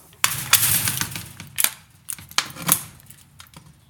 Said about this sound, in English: Yeah, just a couple of locks, you know. Yeah. Yeah, two doors. Security door, you know. Okay, go on in. Yeah. Just let me lock the doors, okay?